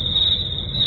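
A steady, high-pitched cricket chirp sound effect trills continuously for about a second, fairly loud, with no voices over it.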